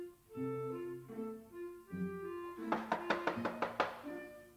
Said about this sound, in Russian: Одну минуточку, там стучат.